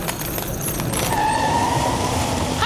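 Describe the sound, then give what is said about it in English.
A top-of-the-range electric car rolls in over steady road rumble, a thin high motor whine rising partway through as it pulls up and is forced to stop on the road. No one speaks. “We forced it to stop. Mind you, this is a real, lovely, top-of-the-range electric car.”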